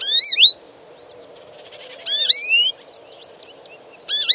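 A songbird gives its year-round call notes, three loud, sharp calls, each a quick burst of high, sweeping chirps, spaced about two seconds apart over a soft, steady background hiss.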